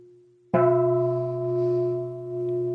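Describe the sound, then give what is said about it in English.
A bell is struck once, loud, after the faint tail of an earlier ring. Its rich tone sustains and slowly pulses as it rings on, with no talking. It is rung repeatedly as part of a practice session. “Are you wishing that I'd stop ringing the bell?”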